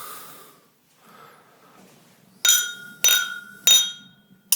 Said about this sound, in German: Lass darauf erstmal kurz anstoßen.